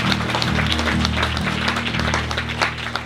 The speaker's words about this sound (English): Will we give these six guys a round of applause? Hallelujah.